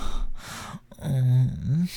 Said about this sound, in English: You can hear my moans. Oh, my breathing getting louder.